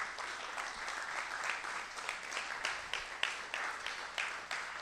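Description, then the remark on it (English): A church audience applauds steadily for about five seconds to thank people for their work, a dense, even wash of many hands clapping with no voices standing out above it. “And I just wanted to take a quick second so that the church could have a moment to just to applaud and just to thank you guys for all the work you guys have been doing.”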